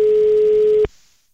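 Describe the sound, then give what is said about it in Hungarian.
A steady, loud telephone ringback tone from an outgoing call to the listener of the day sounds for just under a second, then cuts off abruptly into near silence. There is no talking. “Kicsöng, halljátok?”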